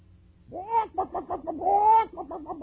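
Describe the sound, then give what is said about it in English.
A chicken clucks loudly, twice drawing out a long squawk that breaks into a quick run of short, choppy clucks, with no one talking. “Chicken. You're afraid.”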